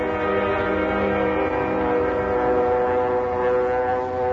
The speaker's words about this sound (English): Hey, that plane sure has got a funny-sounding motor. Never heard one like that before.